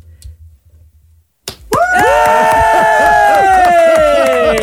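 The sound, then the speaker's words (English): After a quiet, low rumble and a brief silence, a crowd suddenly erupts into loud, sustained cheering and whooping with clapping mixed in, continuing at full volume to the end, as the winners of a Fan Choice Award are unveiled. “The clapping has to continue on through the whole thing.”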